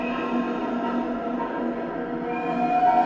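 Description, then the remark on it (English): A train to Dunleavin rumbles steadily into a station with a dense, droning hum and ringing metallic tones, fairly loud, and a thin high squeal like braking rises near the end as it groans to a stop. No one speaks. “With a roar, the train to Dunleavin rumbled into the station and groaned to a stop in front of Barry.”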